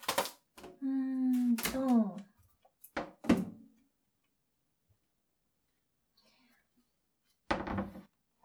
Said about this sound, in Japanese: で、玉ねぎ切るか。